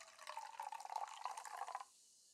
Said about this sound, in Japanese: まだお酒を飲めないあなたには、これ。コーラでーす。グラスもキンキンに冷やしておきましたから。よいしょ。さあさあさあさあ、一杯一杯。注ぎますね。あなたにも、コーラを。